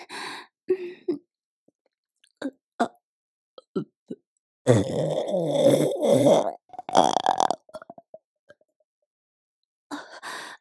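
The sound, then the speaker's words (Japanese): A long, loud, gurgling burp rumbles for nearly two seconds, followed by a shorter belch, with scattered soft breaths and mouth noises before and after. “ごめんなさい、ダーメンゲップ出ちゃいました。”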